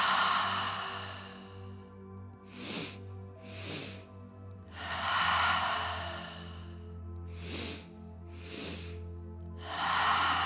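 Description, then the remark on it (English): Two quick, sharp sniffs in through the nose, followed by a long, slow, airy breath out through the mouth, done as a physiological sigh breathing exercise. The pattern repeats twice over a steady low hum, fairly soft. “soothing, collective, communal breaths all together, where we're going to inhale twice through the nose and then slowly exhale out of the mouth, the physiological sigh.”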